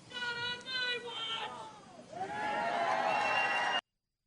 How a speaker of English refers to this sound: See that one person yell out, "Not on my watch," and the crowd starts going crazy.